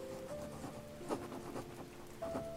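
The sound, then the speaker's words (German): A man writes a letter in a shop after closing time: quiet scratching of a pen moving across paper in short strokes, with a soft continuous hum in the background and no voices. “Wenn der Füllfederhalter, der Bleistift oder ein Kugelschreiber hörbar darüber hinweggleitet. Buchstabe für Buchstabe, Zeile für Zeile.”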